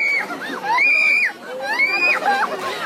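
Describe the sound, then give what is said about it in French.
A crowd of villagers and visitors around a Mahua tree in the village of Nayagaon, Madhya Pradesh, India, many voices shouting and yelling over one another, high-pitched and loud, forming a dense, continuous, chaotic clamor with no clear words, as police try to control the crowd. “Alors la police a tenté de contrôler la foule, de plus en plus importante.”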